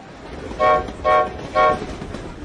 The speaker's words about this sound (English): Moments later, everyone heard the choo-choo-choo of the train as it arrived in a huge puff of rainbow-coloured magic smoke.